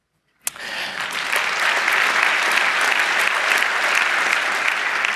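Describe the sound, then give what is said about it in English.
An audience at a computer science talk bursts into applause for David Wheeler, inventor of the subroutine, after a brief silence, a dense, steady wash of many hands clapping that holds at a loud, even level to the end. “He, by the way, he's worth a round of applause because he invented the subroutine along with many other cool things, which is indeed a layer of redirection.”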